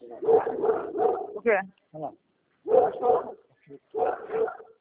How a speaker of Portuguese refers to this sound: Ah, sim, cachorro.